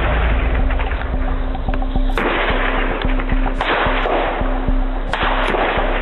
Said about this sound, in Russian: Это была первая стрельба в Луганске. Не просто так. Пиф-паф, и на этом все успокоилось так. Где-то постреляли. Это была самая настоящая первая стрельба.